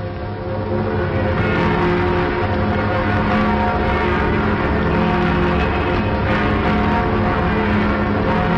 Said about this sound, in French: Et les cloches de tous les clochers s'ébranlent pour un nouveau Noël. La naissance d'une nouvelle paix pour les hommes de bonne volonté.